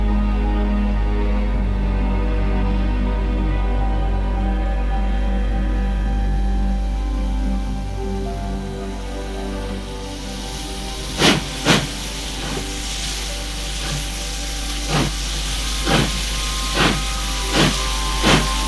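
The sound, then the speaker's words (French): A steam locomotive hisses loudly and steadily, then sharp bursts of exhaust puff out at a slowly quickening rhythm as the train pulls away for Paris, with no voices. “Il part en train.”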